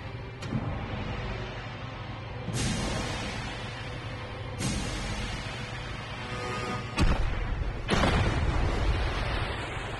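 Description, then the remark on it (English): Muffled underwater explosions of two torpedoes, picked up by sonar at bearing 055, range 8,540 yards: deep, booming blasts strike at irregular intervals over a constant low rumble, each fading into the roar, with no voices present. “Sonar, two explosions, bearing 055, range 8,540 yards.”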